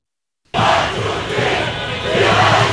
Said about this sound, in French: Dès le coup de sifflet final, c'est l'explosion de joie sur les Champs-Élysées. Des milliers de supporters algériens, drapeaux sur les épaules, défilent sur l'avenue.